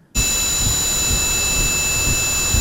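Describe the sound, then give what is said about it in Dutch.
Simulated tinnitus, the ringing in a daughter's head: several steady, high-pitched ringing tones layered over a constant rushing, windy noise, starting abruptly and holding loud and unchanging throughout, with no voices. “Zo ongeveer moet die geklonken hebben, de piep in het hoofd”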